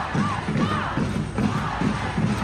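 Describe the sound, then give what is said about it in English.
A large crowd at a war protest on a university campus shouts in unison outside an administrative building taken over by students at the Rhode Island School of Design, loud rhythmic chanting repeating in steady bursts roughly twice a second, voices blending into a dense, continuous roar. “Students at the Rhode Island School of Design took over an administrative building last night, barricading entrances with tables and chairs as crowds gathered outside the building.”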